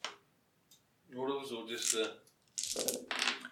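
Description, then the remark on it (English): A brief voiced murmur, then a bright clatter of eight dice tumbling across a table in a quick rattling burst lasting about a second, rolled for a technology roll in a tabletop game. “technology roll, I mean. I got 8 dice then.”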